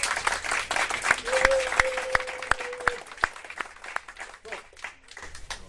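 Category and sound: crowd, applause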